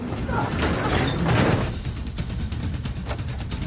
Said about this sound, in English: the two women barricade the door with a washing machine.